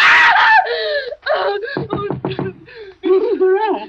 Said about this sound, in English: What on earth is wrong? Why were you screaming?